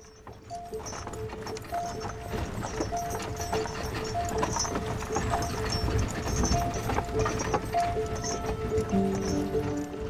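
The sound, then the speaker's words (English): Steady clip-clop of horse hooves on a hard road, rhythmic, with a horse-drawn carriage rattling along behind over a continuous rumbling background, evoking Mozart's 1762 carriage journey from Salzburg to Vienna. “Sometime in 1762, 6-year-old Wolfgang Amadeus Mozart sat in the back of a horse-drawn carriage with his father, Leopold.”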